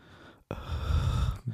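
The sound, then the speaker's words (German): A voice imitates heavy mouth breathing right into the microphone: one long, rough, breathy exhale with a boomy low rumble, fairly loud, lasting about a second after a short pause. “Er atmet einfach durch den Mund.”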